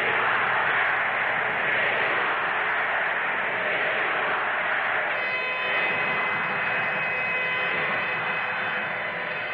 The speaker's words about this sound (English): And that booing, that hooting down of Governor Rockefeller of New York State went on and on and on.